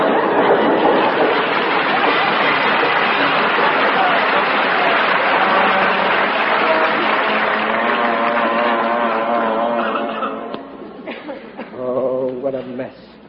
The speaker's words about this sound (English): Holy smoke! The house is moving. It's an earthquake. Oh, it's a train!